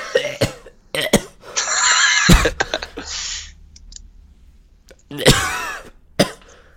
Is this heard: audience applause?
no